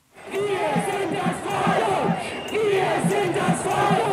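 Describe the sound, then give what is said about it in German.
Thousands of protesters against the Corona measures, gathered at the Brandenburg Gate, shout in unison at midday toward the Bundestag, many raised voices blending into a loud, steady roar with a rough chanting rhythm that continues without a break for several seconds. “So brüllen sie es am Mittag in Richtung Bundestag, wo die Parlamentarier gerade über das Infektionsschutzgesetz debattieren.”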